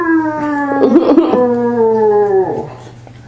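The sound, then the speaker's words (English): A voice imitates a roar with one long, drawn-out, howling cry that holds steady and slowly drops in pitch over about three seconds, loud, with some rough noise midway. “He comes up there and he roars.”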